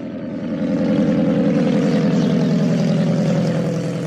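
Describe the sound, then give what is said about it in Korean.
A propeller plane piloted by Wills drones steadily and loudly as it climbs into the sky on the day of an air show, 30 April 1926, with Coleman aboard. It swells in the first half second, then holds a thick, buzzing roar, with no voices. “윌스가 조종하는 비행기는 하늘로 치솟았습니다.”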